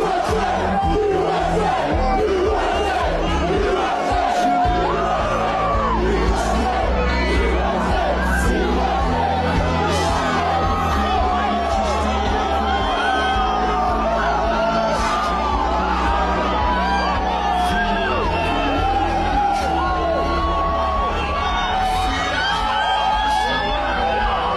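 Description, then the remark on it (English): A huge crowd at an Iowa State college football game roars and yells continuously for Donald Trump, a dense wall of cheering voices with scattered whoops and shouts rising above the steady din, loud and sustained throughout. “They were going crazy for him.”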